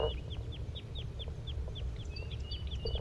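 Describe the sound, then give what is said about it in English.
A restless flock of birds gives a steady series of short, high, downslurred flight calls, overlapping one another at a quick, irregular pace over a low background rumble. “Sounds like the flock is getting restless. They're giving flight calls.”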